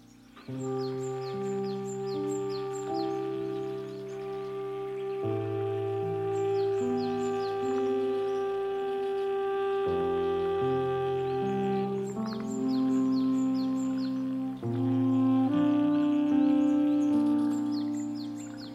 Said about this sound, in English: I'm really glad that you guys decided to include the background sounds of birds and frogs and the forest. It is probably the song that I would pick to fall asleep to, because there's something really comforting about it.